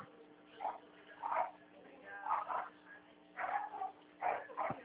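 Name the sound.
dogs barking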